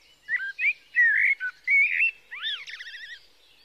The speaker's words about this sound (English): and I would take long walks in the early morning and again at dusk, and I became captivated by this singer that I kept hearing deep in the woods, and I could never find the bird, but I couldn't get enough of the song.